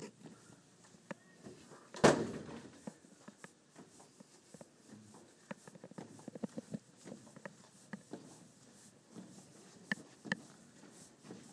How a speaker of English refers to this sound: I'm going to record this last little bit while I'm walking down the hall towards our apartment. There's a door, I just opened it.